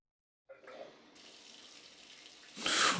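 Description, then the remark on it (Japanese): Water from a shower runs in a steady, hissing spray as someone showers right after coming home, starting abruptly and swelling noticeably louder near the end, with no voices present. “帰ってきて早々シャワーを浴びるなんて清潔でいいね。”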